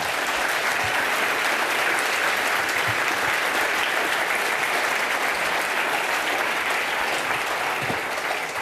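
Sustained audience applause welcoming a speaker to a talk, a dense steady patter of many hands clapping at an even loudness throughout, with no voices standing out.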